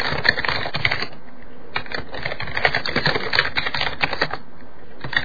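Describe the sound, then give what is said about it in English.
Steady computer keyboard typing, a dense run of quick key clicks with small bursts and brief pauses, heard on its own with no one talking. “There we go. Typing noises.”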